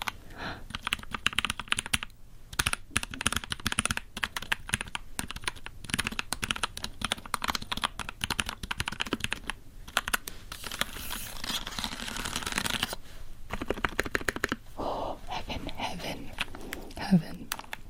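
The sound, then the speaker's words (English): Rapid typing on a compact 65% mechanical keyboard, a dense stream of crisp clacking keystrokes that runs nearly nonstop, broken by a few brief pauses. “Now, the reason I say I can't do a 65% keyboard is because I have been using one.”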